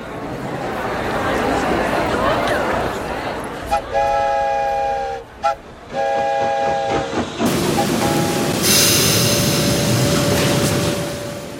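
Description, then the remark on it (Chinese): A steam train rumbles along the tracks with a steady hiss of steam, broken by two long, loud whistle blasts in the middle before a sharper burst of venting steam. “铁路把家禽家畜运到芝加哥，那里的包装公司将它们宰杀做成肉制品，销售到东部的市场。”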